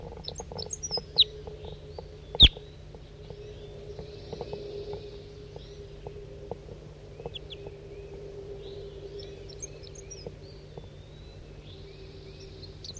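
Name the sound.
crossbill calls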